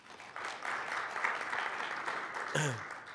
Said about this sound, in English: He's our electoral area representative on the UBCM board. So give Art a round of applause, please.